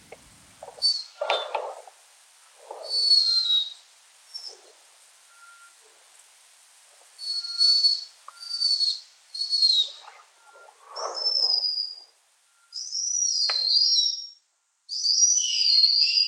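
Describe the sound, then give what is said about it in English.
A mouse pup calling for its mother: a series of about ten high, whistling chirps and squeaks in irregular bursts, some with a buzzy, lower edge, with no talking. “This is the sound a mouse pup makes when they're trying to get the attention of their mother.”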